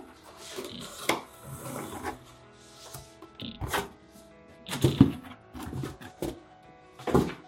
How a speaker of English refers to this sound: So I want to work on the back piece of my box in here. So I'm going to set that directly onto the paper, get my pencil, and then I'm going to draw on the paper so that I know what size to cut out.